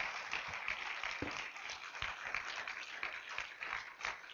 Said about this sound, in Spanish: Dale fuerte ese aplauso al Señor.